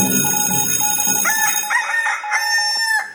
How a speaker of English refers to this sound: Early call time. Cock-a-doodle-doo.